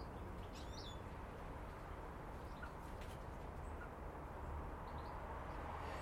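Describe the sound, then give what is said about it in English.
Goldfinches chatter to each other in a garden in a few faint, scattered twittering chirps, mostly buried under a steady outdoor rush of background noise. “Listen to those wee goldfinches chatter to each other.”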